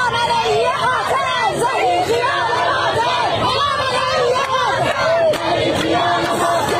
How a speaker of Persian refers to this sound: بر اساس تصاویر منتشر شده در شبکه‌های اجتماعی، معترضان در نیشابور، تربت حیدریه، کرمانشاه، تهران، قزوین، گیلان، مشهد، ایلام و چندین شهر دیگر با حضور در خیابان‌ها علیه مقام‌های جمهوری اسلامی شعار سر دادند.